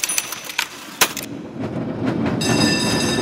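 A tram clatters along its rails: a few sharp clicks and knocks at first, then a steady rolling rumble that grows louder, joined near the end by a high metallic whine.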